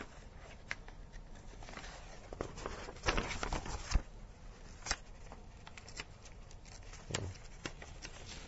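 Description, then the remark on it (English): Quiet rustling and crinkling of sheets of paper being fiddled with and pulled apart as they resist separating, in irregular bursts with a few sharper crackles, no voices. “Sorry, let me just fiddle with this bit of paper, which doesn't want to separate.”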